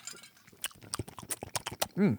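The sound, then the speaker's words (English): Crunching an ice cube in the mouth: a quick irregular series of crisp, wet cracks, followed by a brief voiced hum at the end. “I got an ice cube in my mouth. Can you hear me crunching it?”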